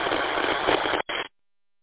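Dense, band-limited static hisses steadily over a ham radio transmission for about a second, cuts out briefly, returns for a short burst, then stops abruptly. No voices come through the noise.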